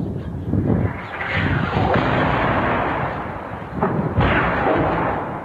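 Heavy artillery shelling of the Baba Amr quarter of Homs, Syria, booms out in repeated explosions a few seconds apart, each blast rolling into a long rumbling roar, loud and continuous with no voices.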